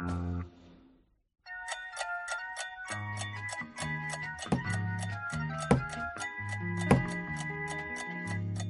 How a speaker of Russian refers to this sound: Вот и Новый год скоро. Уже часы бьют. А мне кажется, это не часы бьют, а кто-то ногой в дверь стучит.